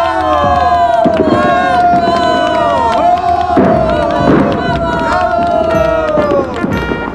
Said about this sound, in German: Die Zuschauer jubelten vor Begeisterung